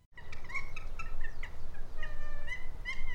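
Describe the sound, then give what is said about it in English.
Nene geese, a pair in dry grass, call in a run of short, nasal honking notes, then a few longer drawn-out calls over a steady low outdoor rumble. “Kathleen Misahan crouches in the dry grass, eagerly watching a pair of geese.”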